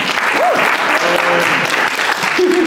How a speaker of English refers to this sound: Do you want to give a round of applause?